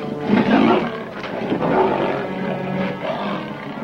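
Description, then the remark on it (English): A caged panther, recoiling into a corner as its cage is opened, snarls and roars in a continuous rough, throaty growl with rising and falling bursts, loud and sustained for several seconds, no voices present. “The panther recoils into a corner.”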